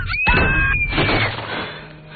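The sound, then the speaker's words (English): A sharp, loud bang cuts through a high ringing whine, followed by a noisy, crashing rumble that slowly fades: gunshots fired by Mars in a bathroom at the plastic sheet left behind a shattered two-way mirror. “Hearing the gunshots, Jeff starts running.”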